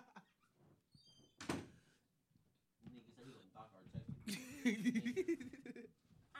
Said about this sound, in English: close the door.